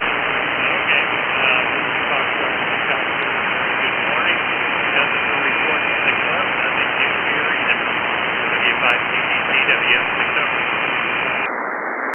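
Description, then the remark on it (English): Steady, unbroken radio static hisses for the whole stretch, a muffled band-limited roar with a faint, garbled transmission barely surfacing beneath it before it cuts off at the end. “No, just static.”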